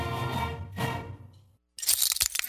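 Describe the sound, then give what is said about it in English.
After a fading tonal sound and a brief silence, glass suddenly shatters in a loud, bright crash, followed by a quick spill of sharp crackling and tinkling fragments. “Uh-oh, sounds like you need some new glass.”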